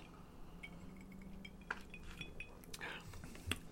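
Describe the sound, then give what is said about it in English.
Glasses of a gin cocktail clink together in a toast, a few bright chimes scattered over a couple of seconds, the sharpest near the end, with a faint murmur underneath. “Cheers, mate. All right. There we go.”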